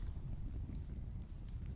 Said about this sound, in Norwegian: det er lyden av en bålpanne.